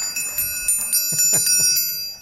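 A bright bell is struck several times in quick succession, its high metallic ringing tones sustaining and overlapping throughout, a 'ding-ding-ding' signalling that an audience member gave the correct answer to a quiz question.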